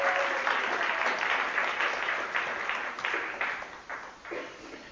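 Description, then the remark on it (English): Steady audience applause for the speaker's son as he comes up to help fills the whole stretch, a dense patter of many hands clapping at fairly even loudness before thinning and fading slightly toward the end. “Give him a little round of applause as he comes up.”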